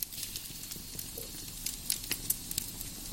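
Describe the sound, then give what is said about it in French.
Logs crackle and pop in a fire in a cabin fireplace, with sharp irregular snaps scattered over a soft steady hiss. The sound is fairly quiet, with no voices. “À l'exception du crépitement des bûches, le silence est total.”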